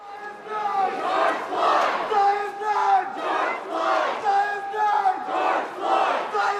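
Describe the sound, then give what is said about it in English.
A crowd of about 100 protesters marching through downtown Anchorage, Alaska, against police brutality chants slogans such as "I Can't Breathe" and "Black Lives Matter" in unison, loud and rhythmic, with repeated phrases rising and falling roughly every second and no other sounds standing out. “Many in the crowd held signs protesting police brutality and were chanting slogans like "I Can't Breathe" and "Black Lives Matter"”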